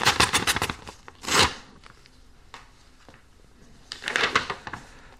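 Paper tearing as an envelope is ripped open: a rapid ragged rip, a brief harsher tear, then quiet rustling before a final crackling tear near the end. No one speaks.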